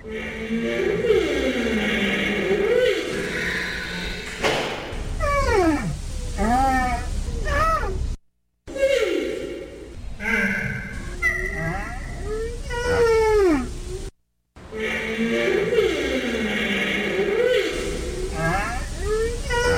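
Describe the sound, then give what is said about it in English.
Sumatran rhino vocalizations: loud, wavering moans and whimpering squeals, then bursts of high, looping whistle-like calls that sweep up and down in pitch, repeated in several phrases with brief silent breaks. “And hear the sound of the Sumatran rhino.”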